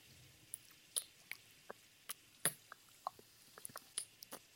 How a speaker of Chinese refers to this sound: 只不过是接吻啊。